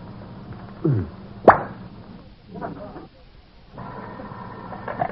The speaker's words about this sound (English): did you just open a bottle of brandy?